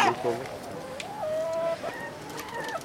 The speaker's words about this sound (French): Le coq qui veut pas mourir.